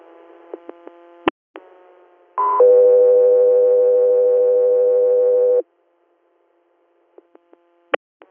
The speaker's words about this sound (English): Scout 3 Air, standby for tones.